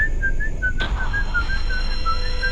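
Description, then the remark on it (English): A thin, wavering high whistle repeats in short pulses over a steady low rumble, with a faint tonal hum lingering in the background, heard outdoors in the darkness. No one speaks. “A few seconds later, we heard the whistle again too.”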